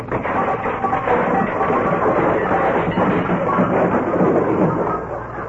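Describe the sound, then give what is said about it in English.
A radio sound effect: a long, loud avalanche of clattering and banging objects tumbling out of a closet as its door is opened, a dense, continuous crash and rattle that rumbles on for several seconds before easing off slightly. “When Stiver runs to open that closet door, look out!”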